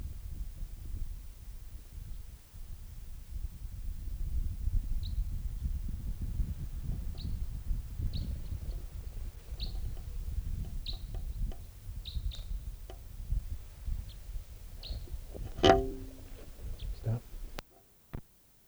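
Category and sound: bird, type 3 bird calling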